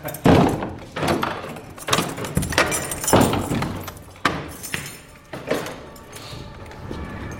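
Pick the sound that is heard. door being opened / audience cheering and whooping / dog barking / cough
door being opened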